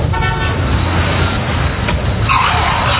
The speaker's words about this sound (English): Hey, you could have been killed by that car.